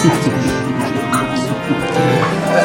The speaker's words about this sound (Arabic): مسكين كابتن، لقد تحمل ذاك الحيوان الأعجم رمزي له بالحجارة كي يرافقنا. إنه كلب وفي ولكنهم سبق كل الكلاب في الوفاء.